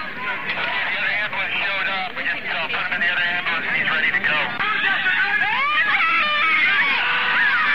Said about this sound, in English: They're grabbing people by their hair now. I see a man, he's yelling in pain. Pull his hair!